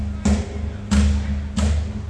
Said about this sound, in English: Cast of Stomp are currently in soundcheck on the main stage, doing a very nice job of it. I love those guys.